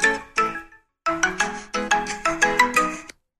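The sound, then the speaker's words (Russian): A phone ringtone plays a bright, repeating melodic pattern of quick electronic tones, starting with two short bursts, a brief pause, then a steady run of notes, clear with no talking. “Да, вот, можно выключить, да, видите, телефон.”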